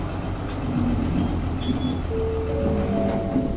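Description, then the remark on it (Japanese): A bus on the Fuchinobe 24 route via Tsurukawa Station rumbles steadily and then begins to rev as it departs the stop, with a rising drone over the low hum. No one speaks. “上りに発車します。”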